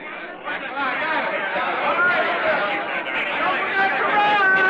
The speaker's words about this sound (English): It's Sunday morning, a spring morning, and in New York's Pennsylvania Station, a young soldier gazes in awe at the swirling, bumping crowds that mill about him.